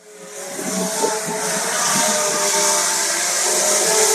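A drone buzzes steadily in flight, a loud, continuous high-pitched whine with layered motor tones that hold nearly constant for the whole stretch, with no voices.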